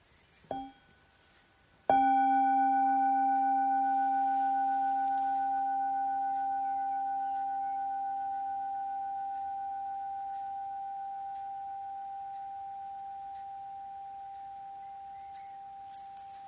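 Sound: meditation bell ringing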